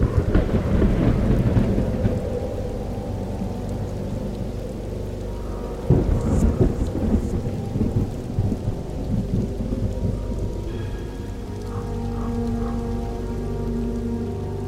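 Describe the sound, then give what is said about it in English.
Heavy rain pours steadily while deep thunder rumbles and rolls, with a loud crack of thunder partway through before the low rumbling continues under the hiss of the downpour. “Somewhere along the 550-mile planned flight path, the plane disappeared in a rainstorm.”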